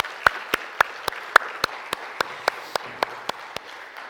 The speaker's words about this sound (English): Can we give the kids another round of applause?